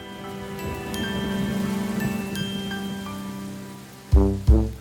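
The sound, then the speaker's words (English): Steady rain patters on a hard surface in a continuous hiss. Sustained musical tones play over it, and several loud plucked notes strike near the end. “Rain, rain, go away. Come again another day.”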